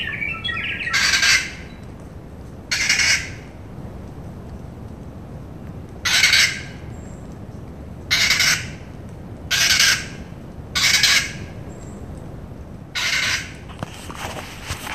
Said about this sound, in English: Right now, I'm standing in a clearing, and there are about maybe six or seven kakas all playing with each other up in the trees around me and singing and squawking, and it's absolutely sensational.